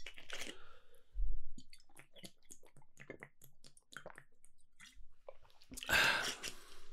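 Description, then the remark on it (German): Someone takes a small sip of water: a brief clunk, then a run of soft wet mouth clicks and swallows, ending with a breathy exhale. “Da trinke ich mal einen kleinen Schluck Wasser.”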